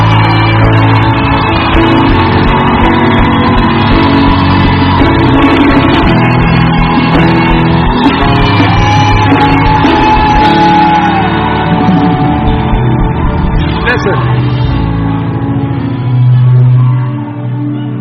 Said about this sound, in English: Give Jesus a big shout, a big clap of praise.